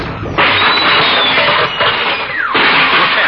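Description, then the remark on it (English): A noisy burst of crowd-like clatter and cheering, with a high horn tone sliding steadily downward in pitch before a loud bang-like surge of noise. “And next, the happy hoot of a hilarious horn.”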